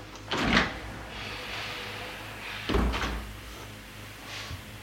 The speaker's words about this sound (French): La porte s'est ouverte, c'est la femme en robe blanche, rayonnante, vieille mais royale.